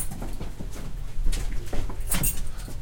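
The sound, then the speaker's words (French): An armored door being unlocked and opened: a run of sharp metallic clicks and clunks, a brief bright jangle of keys or bolts, then some shuffling. There is no talking. “Là, on ouvre la porte blindée.”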